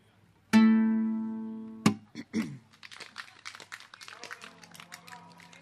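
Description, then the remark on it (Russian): A song's final note rings out and fades, then an audience breaks into steady applause, a dense patter of claps with a voice faintly mixed in near the end. “Ну, судя по аплодисментам, я надеюсь, что многим из вас описанные выше чувства знакомы.”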